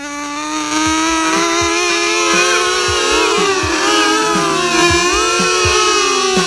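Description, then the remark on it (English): Several voices hum and buzz together in a loud, sustained imitation of a revving engine to get a flyer off the ground, the pitch wobbling and sliding up and down for about six seconds without pause. “Let's all make the engine sound to get the flyer off the ground.”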